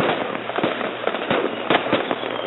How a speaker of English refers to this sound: That's my new Cinco de Mayo firework display that I just had installed.